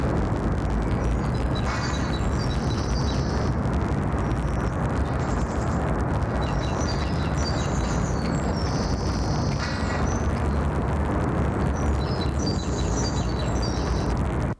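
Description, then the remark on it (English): A constant, dense roar of city street traffic in urban London, loud and unbroken, while short bursts of high, chirpy birdsong cut through it several times. “And once again, the ambient sounds of traffic and the city environment have not been filtered out in this particular sample.”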